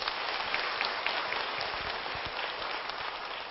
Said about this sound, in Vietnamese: Hãy dâng cao tràng pháo tay để tán dương.